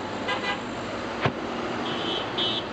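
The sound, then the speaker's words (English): A steady roar of traffic streams down a highway overlooking a battleground at a besieged camp, less than 2 miles from the fighting, with a brief sharp thump midway and a couple of high-pitched horn toots near the end. “Traffic streams down the highway which overlooks the battleground, with drivers seemingly unfazed by the sounds of the bloody struggle less than 2 miles away.”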